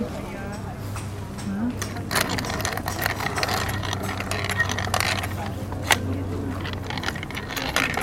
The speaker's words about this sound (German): Vor allem, weil es auf dem Flohmarkt nur so wimmelt von tönenden Dingen. Darf man mal die Kaffeemühle anfassen?